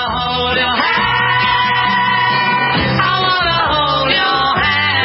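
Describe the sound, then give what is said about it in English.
A large audience of girls at a 1964 televised music performance screams continuously, a loud, dense wall of shrill shrieking and yelling at full intensity throughout, drowning out the songs, which stay buried as muffled music beneath. “Remember about this is that you really couldn't hear the songs above the screams of the girls, the audience.”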